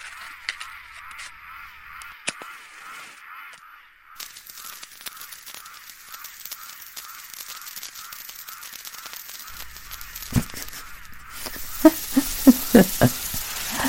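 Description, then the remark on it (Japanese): A lit firework fizzes and sizzles in a steady, hissing rush with crackles running through it, then ends in a cluster of sharp, loud pops. A few faint clicks come before the fizzing starts. “その状態で花火を刺して火をつける。”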